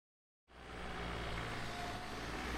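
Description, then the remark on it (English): After a moment of silence, a car engine rumbles in and holds a steady, loud, broad drone with a deep low hum underneath, as the car drives up and parks outside a police station in the morning; no voices. “Huskins drives up and parks.”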